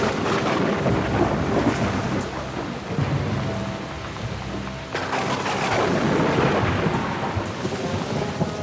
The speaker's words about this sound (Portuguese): E sobreveio uma tempestade de vento no lago, e o barco enchia-se de água, estando eles em perigo.